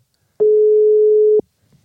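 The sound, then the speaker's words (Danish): A telephone busy signal: one steady, mid-pitched tone lasting about a second, loud, starting and stopping with a small click, with near silence around it. “Prøv at ringe til hende, fordi det hjælper tit, hvis man gerne vil fat på nogen.”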